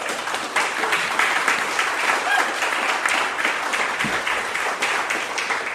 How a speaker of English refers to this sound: Big round of applause